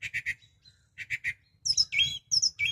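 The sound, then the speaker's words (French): Birds chirping in gardens and forests at the end of winter: a quick triple of bright, high notes, a pause, then another triple, followed by busier overlapping tweets and trills from more than one bird, fairly loud with no talking. “Dès la fin de l'hiver, on entend à nouveau les oiseaux dans nos jardins et nos forêts.”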